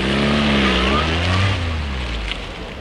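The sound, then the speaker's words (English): A yellow open-topped Triumph Stag sports car's engine revs as it pulls up at a port control, its pitch rising and dipping before easing to a steadier, quieter idle over a few seconds, with no other sounds competing. “A yellow Triumph Stag pulls up at a port control.”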